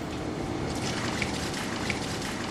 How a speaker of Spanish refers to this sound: Escuchen este sonido. Es la leche emanando de un tanque camino del sumidero.